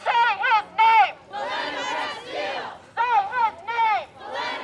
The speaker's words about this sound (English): After staging a rally at the Minnesota State Capitol Friday night, hundreds of protesters took to the streets of St. Paul, shouting and chanting along the way. Hands up, don't shoot! Hands up, don't shoot!